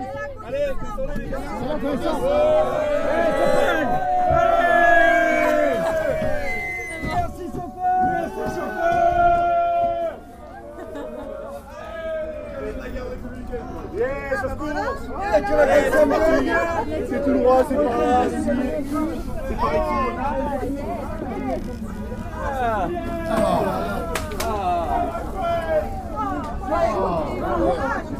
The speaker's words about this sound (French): Bienvenue au Carnaval de Dunkerque, univers parallèle d'absurdité peuplé de doudingues.